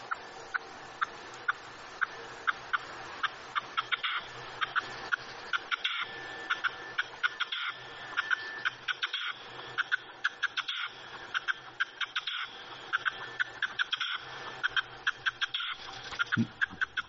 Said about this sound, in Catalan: Aquest, clar, no l'ubiques perquè desgraciadament ara cada vegada se sent menys als nostres camps, però és un ocell, és la perdiu roja, molt comú abans, ara ja no tant